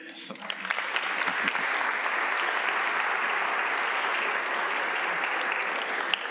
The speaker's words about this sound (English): So let's clap for each person. I think that's better.